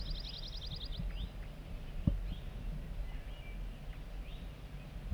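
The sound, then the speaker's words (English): Soft zert zert song from bird 4-3: a quick series of about ten buzzy zert notes in the first second, followed by a few faint, scattered high chirps over a steady low rumble. “We're getting zert zert song from bird 4-3. Very soft.”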